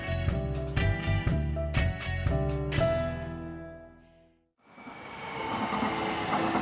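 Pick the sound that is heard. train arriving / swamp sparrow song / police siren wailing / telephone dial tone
train arriving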